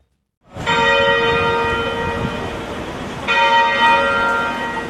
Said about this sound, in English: For 10 minutes every day this week, the bells will toll at St. George's Anglican Cathedral in Cape Town in honour of the late Archbishop Desmond Tutu.